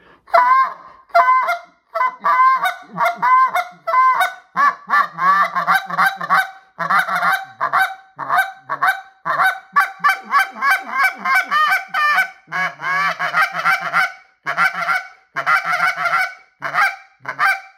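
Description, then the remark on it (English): A goose call is blown, producing deep, hollow gander-like honks in a loud, rapid, rhythmic series, then skipped in one breath into quicker, more aggressive clucks, with no talking over it. “Now, if you watch what I was doing and listen to what I was doing, you know, I was getting that deep hollow goose, so they're coming in that gander.”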